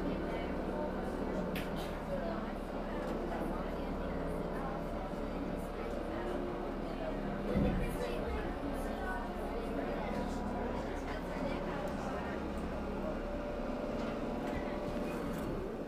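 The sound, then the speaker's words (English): A boat's engine rumbles steadily as the vessel eases in to dock and is tied up, with a continuous low drone, brief knocks and faint background voices. “Okay, let him get the boat tied up here now in just a moment or two, and we're going to let you get off.”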